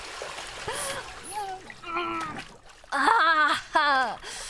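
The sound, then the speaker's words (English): Water splashes and sloshes in a bath as two people get into it together, with a few short splashy bursts while voices exclaim and call out over the top. “Oh, the water feels so great.”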